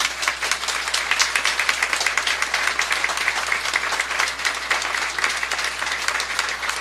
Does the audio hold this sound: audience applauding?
yes